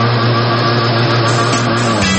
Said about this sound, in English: Throttle up, open her up, and cruise through the waters.